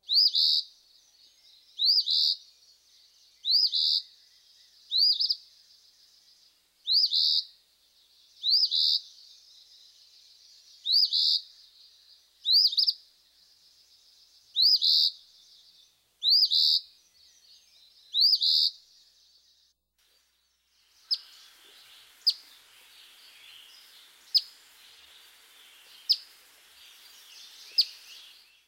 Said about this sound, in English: There's no mistaking the emphatic Phoebe song for the counterfeit of the black-capped chickadee. Listen to the harsh song of the Eastern Phoebe, followed by a series of his flat call notes.